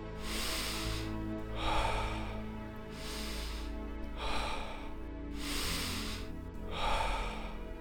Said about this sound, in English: Get ready. We're beginning with peaceful breathing in 3, 2, 1.